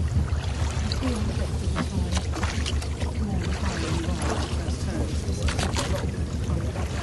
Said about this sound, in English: Oh, the sound of the water and of the oars dipping in. It's like I'm there.